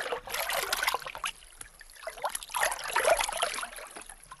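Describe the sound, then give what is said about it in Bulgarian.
Water sloshes and swishes in slow, irregular surges as someone wades carefully into a river, moderately loud, with no voices. “внимателно нагази в реката.”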